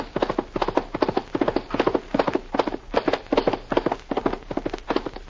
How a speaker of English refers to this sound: He mounts his horse and speeds on the first leg of the 2,000-mile trail to the west.